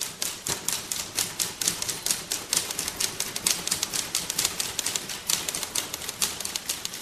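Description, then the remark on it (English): Many typewriters clack at once in a typewriter orchestra by artist Naomi Kashiwagi, a dense, overlapping patter of sharp keystrokes, a busy mechanical rattle that continues steadily without any voices. “She's really a visual artist, actually, but she likes to use sound as well, and she's done things like a typewriter orchestra.”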